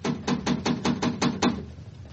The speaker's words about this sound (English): Yes, you'd better give a knock just to make sure.